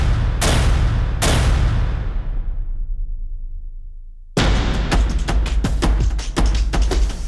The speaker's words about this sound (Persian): با شلیک مستقیم به سر معترضان، به بدن شهروندان، بی پرواتر از همیشه در نمایش خشونتی عریان، با رگبار در خیابان، تک تیرانداز بر بام، ادوات زرهی در جاده